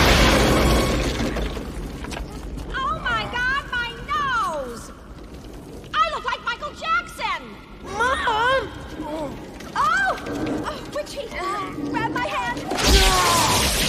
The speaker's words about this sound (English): Ferguson turns the dial of the laser cannon up to max. Danger, overload. Danger, overload. He blasts into the faces of Mount Richmore as Miss Rich coughs.